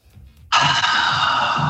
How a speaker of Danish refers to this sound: Ja, det var en udånding. Det var en udånding.